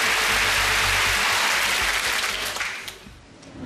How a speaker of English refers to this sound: Let's give her a huge round of applause. I've got a feeling you can do this.